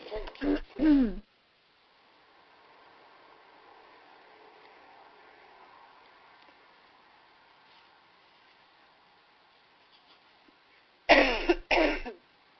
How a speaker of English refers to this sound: So we're willing to wait for her while she coughs and catches her breath and clears her throat. So we'll just be patient.